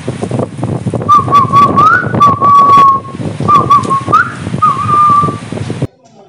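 A man whistles a short, wavering tune with a few sliding notes, clear and fairly loud over a rough, noisy background that cuts off abruptly at the end.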